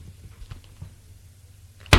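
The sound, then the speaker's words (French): A door opens: a few soft, low bumps over a quiet hum, then a sudden loud clack of the latch or door at the very end. “La porte s'est ouverte.”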